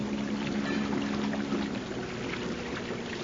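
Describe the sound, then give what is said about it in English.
A boat moves steadily through water, heading into Great Harbor, with a low, constant engine hum beneath a broad wash of churning, splashing water. The sound is continuous, with no one speaking. “The sound that reached my ears told me that the boat was not heading for the passage.”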